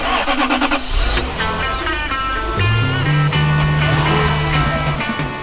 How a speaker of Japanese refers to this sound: 今日のラッキーエンジン音はレクサス SC430 です。